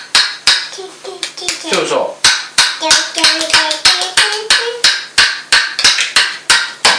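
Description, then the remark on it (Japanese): Sharp, loud taps repeat in a quick, fairly steady rhythm throughout, while a voice speaks briefly over the tapping. “トントントン。トントントンってしようよ。”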